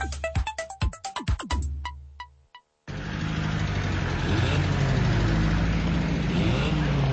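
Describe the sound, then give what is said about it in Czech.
A short chiming jingle gives way, after a brief pause, to dense, steady car traffic in the centre of the town of Travnik, not a main road: continuous engine rumble and passing vehicles, loud, with no voices. “Ovo nije zvuk sa neke magistralne ceste, već u samom centru Travnika.”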